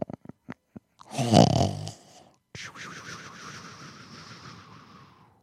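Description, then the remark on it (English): A voice imitates a man snoring as he nods back to sleep on a bench: a few soft clicks, then one loud, rattling snort, followed by a long, wavering, breathy snore that trails off. It is fairly loud, with no talking. “Rico starts fading and he nods back to sleep on the bench. He starts snoring.”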